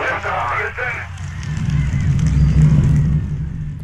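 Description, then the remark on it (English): A rocket lifts off with a deep, crackling roar that swells after a brief voice at the start and holds as a heavy, steady low rumble; the launch tied to Buzz Aldrin and Neil Armstrong becoming the first humans on the moon, 50 years earlier. “That was liftoff, and 50 years ago this weekend, Buzz Aldrin and Neil Armstrong became the first humans to set foot on the moon.”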